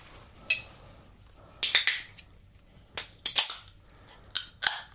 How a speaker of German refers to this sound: Warte, ich mache jetzt noch schnell mein Malzbier auf.